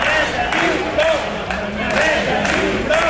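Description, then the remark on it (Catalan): A large crowd of about 2,000 people in Manresa, at an evening rally against insecurity and incivility organized by neighbours and shopkeepers, shouts in loud, rhythmic unison, voices rising and falling in repeated bursts like a chanted protest slogan, with a steady roar of many people underneath. “A crit de Manresa ha dit prou”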